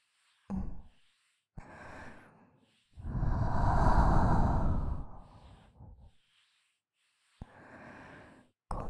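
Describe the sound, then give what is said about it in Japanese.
Soft, airy, warm breaths are blown right against the ear, about four or five breathy puffs of varying length, the longest a loud, sustained exhale in the middle, with no talking. “先ほどよりも生温かい吐息です。息の届く距離は短いですが、その分お耳が包み込まれているような心地よさがあって、脊髄の芯まで響く吐息全面。”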